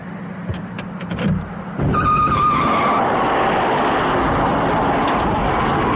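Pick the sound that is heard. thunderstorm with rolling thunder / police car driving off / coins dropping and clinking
police car driving off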